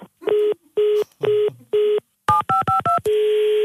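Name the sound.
telephone number being dialed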